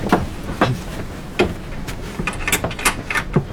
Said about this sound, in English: But first, lock the door.